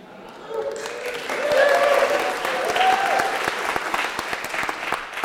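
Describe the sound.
Sustained applause from a crowd at a wedding service, a dense wash of hand claps that swells after the first second and holds steady, with some faint cheering or voices mixed in near the start.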